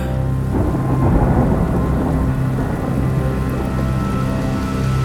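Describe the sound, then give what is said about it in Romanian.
Deep, rolling thunder rumbles steadily under a constant wash of heavy rain, loud, with no voices present throughout. “Tunetul îți dă lauda.”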